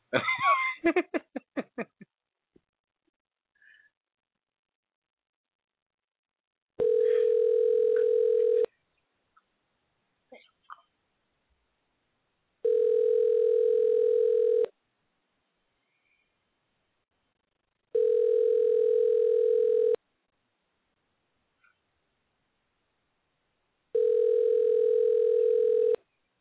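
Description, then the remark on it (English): A phone's ringback tone on an unanswered call to a Sprint number sounds four times, each steady buzzing ring lasting about two seconds, separated by long silent pauses, after a brief burst of noise and laughter at the start. “I'm going to keep calling back because I'm going to get this nigga.”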